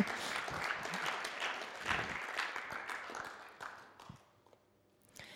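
An audience applauds for a belt, with dense, crackling claps that hold steady for about four seconds, then thin out and fade to a few scattered claps at the end.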